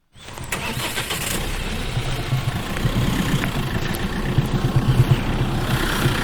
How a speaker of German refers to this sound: Im Innenhof des Betriebsgebäudes des Zolli macht der Chauffeur Andi Wirz sein Lastwagen bereit. Er hängt den Anhänger an und verlässt den Zolli in Richtung Leimedal.